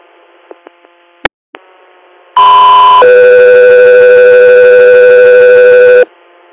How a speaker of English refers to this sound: Code 3 Air, stand by for tones.